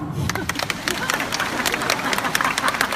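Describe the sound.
An audience bursts into steady applause, dense overlapping claps spreading across the full three seconds with a murmur of crowd voices underneath.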